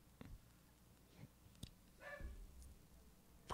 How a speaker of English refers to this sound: My dogs are barking in the background. This is good for podcasting. What I'm doing with the dogs in the background, very good.